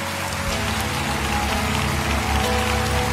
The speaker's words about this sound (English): Come on, Lakewood. Let's give them a hand clap as they stand all over the building.